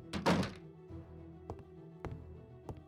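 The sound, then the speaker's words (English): A door shuts with a single heavy, low thunk, followed by three faint, sharp taps spaced about half a second apart over a quiet low hum. “Carmion, Eris, keep the door shut.”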